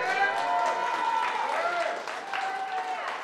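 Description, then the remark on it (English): An audience at an Easter church service erupts in sustained shouting and clapping, many voices whooping and cheering loudly over steady applause for several seconds. “Let's hear a shout in the house.”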